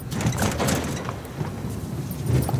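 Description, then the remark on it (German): A very large, heavy hangar roller door, about 30 metres, rumbles open for a Beechcraft King Air aircraft. It makes a steady low grinding with rattling metallic clatter throughout, fairly loud and continuous for the whole stretch with no voices. “Und hier hört man das große Rolltor noch einmal richtig gut.”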